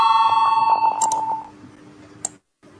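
A parliament voting bell rings with a steady, bright electronic tone for over a second before fading out, calling members to vote on the ninth proposal. A couple of faint clicks and a short silence follow. No one speaks.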